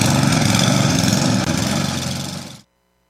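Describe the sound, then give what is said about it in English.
A Cub Cadet snowblower engine runs loud and steady, a rough, buzzing drone with a constant pitch and no talk over it, for about two and a half seconds before cutting off abruptly into silence. “Cub Cadet snowblowers are designed to make your winter easier.”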